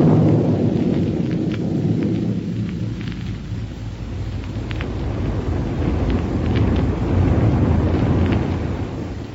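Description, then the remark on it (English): A rocket plane roars steadily through the air on its way to Dr. Heuer's laboratory in Niagara, a loud, continuous low rumble with rushing noise that holds for several seconds, without any voices. “But let's first pick up Buck and Wilma aboard their rocket plane as it roars along on its way to Dr.”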